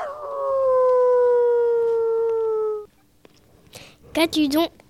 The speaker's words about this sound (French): Comme il avait marché quelque temps, il rencontra sur le chemin un chien de chasse qui jappait comme un animal fatigué d'une longue course.